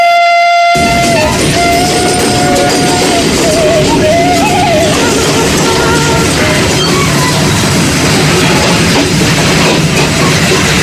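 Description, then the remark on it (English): A diesel train engine, travelling to Kampung Naga in Neglasari Village, Salawu District, Tasikmalaya Regency, West Java, roars steadily with dense rumbling and rattling throughout, a sustained horn-like tone sounding over it near the start before fading into the constant loud clatter. “Sound train diesel machine takes us to a place which amazes both natives and foreigners named Kampung Naga.”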